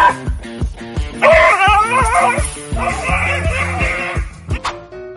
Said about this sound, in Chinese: 当狗狗以为嘴上功夫就能吓得了别人，没想到蜥蜴还会揍狗，吓得狗狗惨叫连连，像个无头苍蝇到处乱窜。